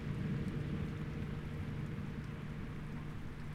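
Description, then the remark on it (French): The last rain of a receding thunderstorm falls through a large gap in rock and lands in water, a steady, continuous dense patter at moderate level with a low, constant rumble beneath it; no voices. “Les dernières gouttes de pluie tombent à travers la grande brèche et tu les entends atterrir dans ce qui semble être de l'eau.”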